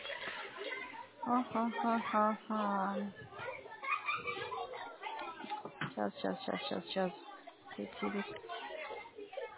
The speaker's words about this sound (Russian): Ой, сейчас, подождите, дети идут, я ничего не слышу.